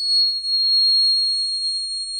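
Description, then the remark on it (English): A prairie grasshopper mouse's ultrasonic howl, made audible by electronically slowing it down, rings out as one long, steady, high-pitched whistling tone that holds its pitch for about two seconds, clear and unaccompanied by any voices. “There you have it, the howling mouse of the prairie.”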